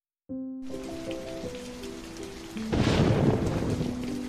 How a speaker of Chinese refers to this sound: 哇，打雷了！